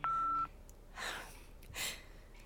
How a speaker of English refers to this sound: So stacking, for the sound design folks out there, stacking sounds on top of each other makes it sound more real. Even if it's just like more noises. More noises on top of each other. Phone noises.